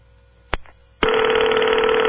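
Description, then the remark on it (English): An old-fashioned telephone bell from Canada rings loudly and continuously, a harsh metallic clatter that starts abruptly after a brief mechanical click, with no one speaking. “There's an old-fashioned ring for you. Phones don't sound like that anymore.”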